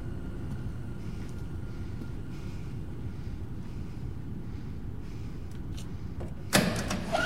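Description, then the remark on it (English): In a dimly lit back storage room, after several seconds of steady low rumbling ambience, a pair of double doors is pushed open with a sudden clunk and rush near the end. No one speaks. “Renee opens the doors and scans the darkness outside with her flashlight”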